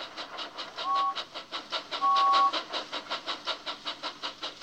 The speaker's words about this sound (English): Sometimes they need to warn people they're coming. So steam engines blow their whistles.